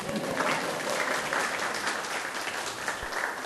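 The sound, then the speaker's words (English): A crowd applauds steadily, a dense wash of many hands clapping at an even loudness throughout with no voices standing out, sustained from start to finish. “special round of applause”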